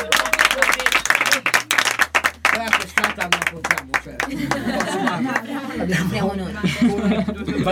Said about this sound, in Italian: E dai, facciamo un po' di uscita. Dai, un applauso.